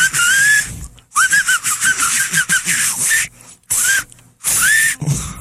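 A battery-powered whistling keychain gadget whistles loudly in several bursts, with warbling, sliding electronic tones broken by short silences, and a harsh buzzy noise underneath. No one speaks.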